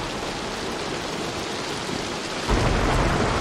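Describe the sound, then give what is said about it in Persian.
Steady heavy rain hisses throughout a thunderstorm, then a deep, loud rumble of thunder swells in near the end, with no voices. “بهتری یه جا پناه بگیریم، طوفان تموم شه.”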